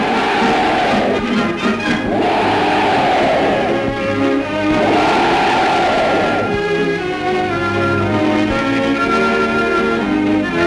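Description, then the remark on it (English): Soldiers of the 10th Army cheer Mr. Churchill, a large crowd shouting loudly in sustained, swelling waves, with a dense, roaring texture and a steadier tonal backdrop beneath toward the end. “It was the 10th Army's turn to cheer the chief.”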